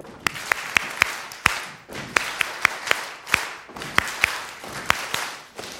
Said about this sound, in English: Okay, so stomp five times, stomp five times, stomp twice, up.